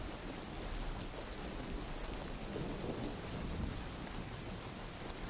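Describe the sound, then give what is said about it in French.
Steady rain hisses throughout, with a deep rolling rumble of distant thunder underneath as lightning streaks the darkening sky over a far-off meadow. The storm stays far off and even in level, with no voices. “Vous rouvrez les yeux et apercevez au loin le ciel s'obscurcir et se zébrer d'un éclair qui vient jeter un ray de lumière sur la prairie lointaine.”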